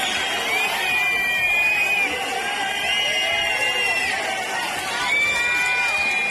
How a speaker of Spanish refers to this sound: la llegada del presidente Sánchez entre pitos, abucheos y gritos de Ocupa